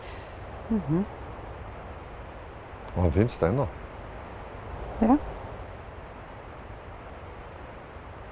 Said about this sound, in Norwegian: Du hører fossen godt her.